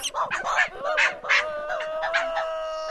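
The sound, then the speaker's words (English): A string of rapid, varied monkey vocalizations from a gelada: short chattering bursts that give way to a sustained, wavering tonal call, moderately loud and continuous. “So one of the theories these scientists are testing is that geladas use complex strings of sound, rather like a guy in a soapbox, to quickly win over a crowd.”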